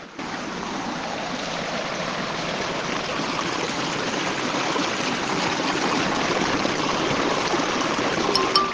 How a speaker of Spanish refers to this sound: Vivo en Iriwod. Y vivo muy cerquita al río. Estos son los sonidos.